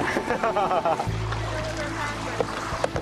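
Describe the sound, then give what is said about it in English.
Someone clambers out of a kayak after paddling on clear city water: continuous water sloshing and splashing with a low hull rumble and a couple of sharp knocks near the end, muffled voices at the start. “All right, this is the embarrassing part, getting out of the boat.”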